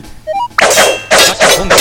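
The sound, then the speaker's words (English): Arrows shot from a bow being blocked and deflected: a few faint rising chimes, then a loud, sharp thwack followed by several more forceful, crashing impacts in quick succession, harsh, with no voices. “And we're all blocked.”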